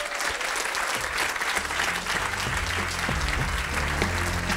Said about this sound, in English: A little more applause, I think, for Wes Boss and Scott Tolinsky.